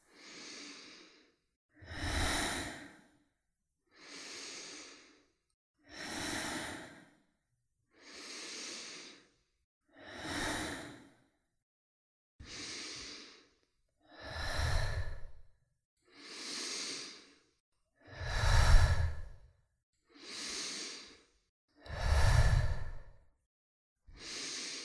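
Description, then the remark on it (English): Slow, deep, full breaths drawn in and pushed out in a steady rhythm, about a dozen airy bursts, some exhales heavier and louder than others, with no talking. “Letting your mind focus on this breathing.”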